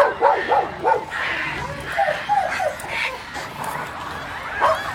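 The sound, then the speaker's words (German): A dog barks repeatedly in short, yappy bursts, several quick barks in a row followed by another cluster, moderately loud against a faint background. “Hunde bellen, Katzen miauen, Vögel singen und Frösche quaken.”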